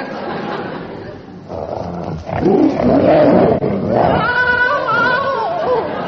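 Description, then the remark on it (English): A loud, theatrical tiger-like roar rises and swells, growling and wavering with a rough, throaty edge before trailing into a higher, bleating wail, like a comic sound effect. “What's that? We'll all be murdered in our beds. Is that the tiger, Min?”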